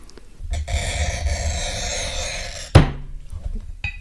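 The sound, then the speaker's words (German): A steady, gritty scraping screech runs for about two seconds as a glass cutter scores a sheet of glass, ending in a sharp click followed by quiet handling noises. “Ich muss mich mal dazu hinstellen, weil dann hat man den besseren Druck beim Schneiden.”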